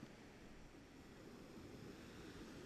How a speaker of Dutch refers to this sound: De zee is vrij rustig. Maar er is een aantal golfbrekers hier. Dus je hoort gewoon eigenlijk het water slaan op het strand.